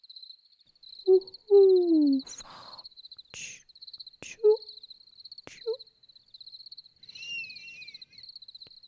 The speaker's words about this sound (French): Écoute, on entend les hiboux et la chouette aussi, dit papa.